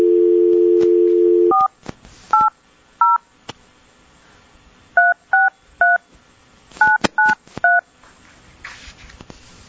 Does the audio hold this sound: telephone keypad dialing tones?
yes